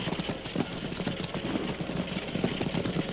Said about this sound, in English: The horse sped on, unmindful of the slippery, water-filled holes beneath the flying hoofs.